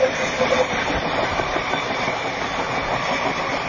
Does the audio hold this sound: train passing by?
yes